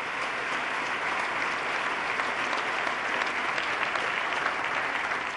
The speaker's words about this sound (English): The North Country has a new future. And let's give them a round of applause for their turnaround.